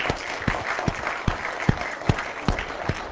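A small audience applauds in a steady, dense patter, with a few louder nearby claps landing in an even rhythm throughout. No one speaks over it.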